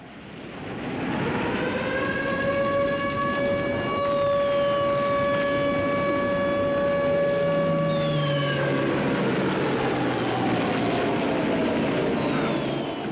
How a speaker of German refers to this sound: Es gab also mehrere Alarmsignale. Das erste war ein Voralarm, drei Heultöne, die Sirene heult, eine Zeit, Ruhe. Die Sirene heult, Ruhe.